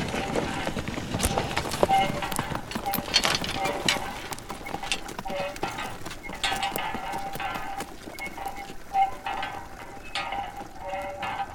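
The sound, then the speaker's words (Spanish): Heavy draught horse hooves clip-clop along at a steady walking pace, a continuous series of sharp clattering strikes that stays even in loudness throughout. “Mulos y caballos de tiro tuvieron una importancia fundamental en el pasado para los campesinos de la comarca de los Montes de Toledo.”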